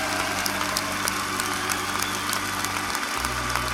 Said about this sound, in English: Now I want you to give the Lord a hand clap and a shout of praise.